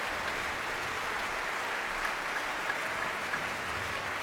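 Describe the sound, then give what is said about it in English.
Sustained concert audience applause for the three soloists, Christopher Purvis, Brian Heimel and Karen Cargill, returning to the platform without Simon Rattle, a dense steady patter of many hands clapping at an even level throughout, with no voices standing out. “Simon Rattle absent, allowing the three soloists to get the applause.”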